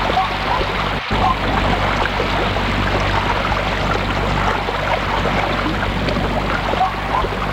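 Steady rain, now falling less heavily, patters down in a dense, even hiss of countless drops, holding a constant level throughout apart from a brief dip near the start. No voices are heard.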